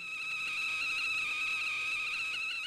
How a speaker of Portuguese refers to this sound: E baixinho a cafeteira.